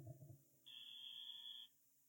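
A game show wrong-answer buzzer sounds once after an incorrect guess, a steady, bright electronic tone lasting about a second and cutting off abruptly, fairly loud, after a brief low murmur at the start.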